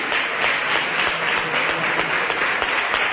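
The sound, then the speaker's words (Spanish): Steady, dense applause from a crowd, many hands clapping at once in a continuous wash of sharp claps that holds at an even, loud level throughout. “Y ya ven el aplauso que ha despertado en todo el público.”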